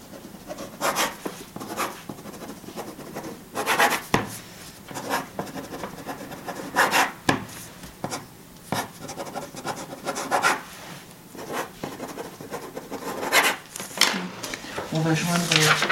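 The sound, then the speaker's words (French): A pen scratches and rubs across paper as a woman signs five times in a row, in a series of short bursts with brief pauses between strokes and some faint background noise. “Vous avez un stylo, madame? Déjà, pour mes papiers, c'est pas moi qui se débrouille, c'est mes amis qui m'aident parce que je comprends rien. Donc là... Vous allez signer 5 fois de suite sans réfléchir.”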